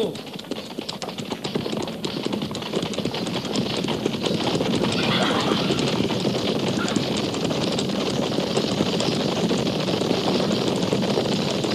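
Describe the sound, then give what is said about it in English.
Several horses gallop in a steady, rapid drumming of hooves that fills the whole stretch, with rushing wind noise over it and no clear voices. “At the gallop!”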